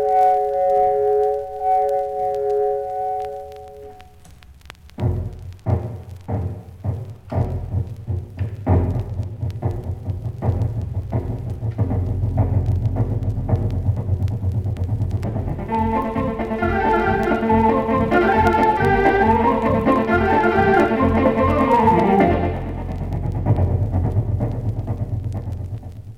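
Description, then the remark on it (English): A Con Caprice compact home organ, built by CG Con, imitates a steam locomotive: a sustained whistle chord opens, then steady rhythmic chuffing over a low rumble, followed by loud ringing bell and whistle tones layered above the chugging. No talking. “Now, just for pure fun, let's listen to a realistic steam locomotive, complete with bell and whistle.”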